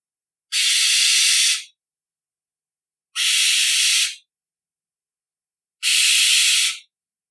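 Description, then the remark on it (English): A barn owl gives three harsh, hissing screeches at night, each lasting about a second, separated by short silences. The raspy, breathy shrieks are loud and steady, with no other sounds around them. “The barn owl looks elegant, but he doesn't sound like it. He screeches at night.”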